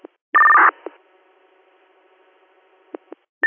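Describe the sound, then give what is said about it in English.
Fire department dispatch paging tones: a short, loud electronic tone burst sounds over a radio channel, followed by a faint hum and a few sharp clicks, then another tone starts at the end. No one speaks. “Did you want Jasper fire toned out to set the landing zone up?”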